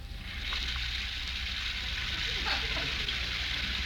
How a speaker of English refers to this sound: While upstairs, we hear the sound of the shower.